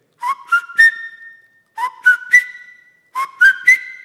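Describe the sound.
A person whistles an imitation of the springtime call of a bird that perches outside a bedroom window at 5 a.m. every morning: a bright three-note tweet, each phrase rising in pitch, repeated three times with short pauses between, clear and fairly loud with no talking.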